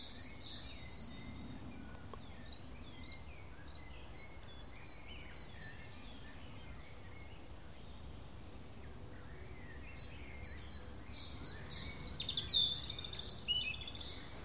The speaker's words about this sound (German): Und jetzt lauschen wir nochmal dem Rotkehlchen, das hier ganz nah sitzt.